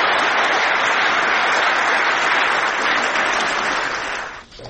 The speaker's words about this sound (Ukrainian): Усі присутні привітали виступ Олега Сенцова гучними оплесками стоячи.